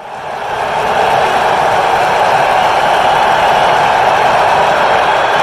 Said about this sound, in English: It's probably the loudest crowd I've ever heard, definitely for a regular season game.